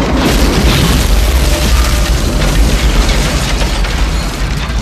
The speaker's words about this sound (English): On the street, they take a flying leap away from the apartment house as the entire basement explodes.